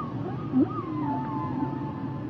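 Humpback whale song: sliding, moaning tones that rise and fall in long drawn-out sweeps, with a brief louder groan near the start, carried over a steady low underwater rumble and no voices.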